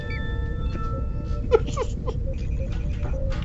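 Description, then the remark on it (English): A phone alarm goes off with a steady, high electronic tone and a series of quick warbling chirps layered over it, fairly loud and continuous with no one speaking. “An alarm went off on my phone that I've never heard before, and I couldn't figure out where the sound was coming from.”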